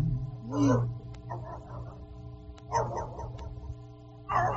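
A dog barks in a few separate bursts, some quick and clustered, spaced irregularly over a steady low hum, at moderate loudness with no one talking.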